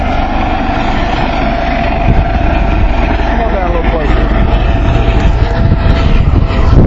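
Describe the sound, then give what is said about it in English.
A helicopter roars steadily overhead at an emergency rescue demonstration, its loud, low engine and rotor noise continuous throughout with a heavy rumbling bottom end, and faint voices buried beneath the din. “Emergency rescue demonstration. Yep. Helicopter, nowhere to come to.”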